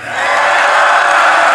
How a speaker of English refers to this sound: Listen to that roar of the crowd. Far more Chinese students than from any other countries, really actually from all of the other countries combined.